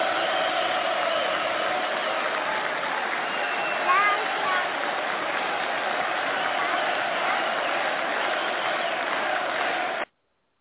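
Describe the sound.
A group of young men gives a sustained ovation to a ten-year-old girl, dense clapping mixed with cheering voices, holding at a steady loud level for about ten seconds before cutting off abruptly.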